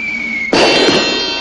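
A cartoon Acme anvil clang sound effect: one sudden, loud metallic strike that rings out with bright, sustained overtones, preceded by a faint steady high tone.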